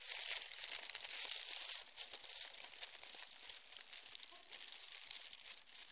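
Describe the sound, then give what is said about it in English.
Paper packing inside a lidded box crinkles and rustles continuously for several seconds as it is unwrapped, a dense crackle of crumpling with brief tearing sounds and no voices. “Oh, there's a lot of paper inside.”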